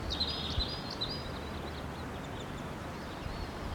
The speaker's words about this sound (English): there's a number of wild birds here now. There's a male in flight.